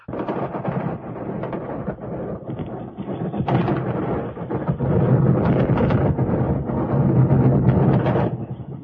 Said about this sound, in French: Ces coups de feu, ce sont ceux qu'on entend régulièrement dans les rues de Prague en ces journées et nuits de la fin août 1968.